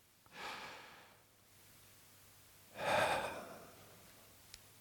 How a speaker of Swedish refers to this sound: Så låt oss ta hjälp av andningen när vi saknar orden i vår bön. Låt oss alla ta ett djupt andetag.